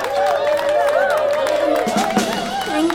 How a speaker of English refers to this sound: And here she is! Give her a big hand, everybody!